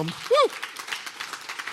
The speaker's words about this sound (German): Also, euch gehört ein Applaus. Lasst uns das gescheit machen.